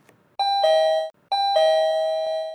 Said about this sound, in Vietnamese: thì có tiếng chuông gọi cửa.